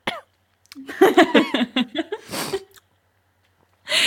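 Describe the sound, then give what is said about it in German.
A voice imitates the quiet coughing of a silent audience, as cut into films: a short run of soft, throaty voiced coughs, then a breathy, noisy cough, a pause of silence, and another breathy burst at the end. “Vor allem, das wird ja manchmal so in Filmen so mit reingeschnitten, einfach dieses leise Husten von einem stillen Publikum.”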